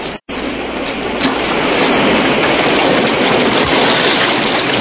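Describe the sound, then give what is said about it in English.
A loud, steady roar of water that a man has turned into a tunnel, a dense hissing surge that starts after a split-second gap and holds constant throughout, with no voices. “He's turned water into this tunnel.”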